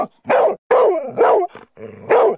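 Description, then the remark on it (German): A dog barks loudly, five sharp barks in a quick, uneven series with brief gaps between them, some carrying a slight growl or whine; a dog brought along to an office on the 'Kollege Hund' bring-your-dog-to-work day. “Viele Kolleginnen und Kollegen bringen regelmäßig ihre Hunde mit.”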